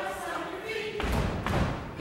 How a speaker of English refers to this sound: If you're happy and you know it, stamp your feet. Let's really do it.